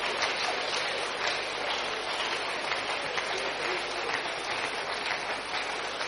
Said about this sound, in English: Keep clapping as they go. Keep clapping as they go.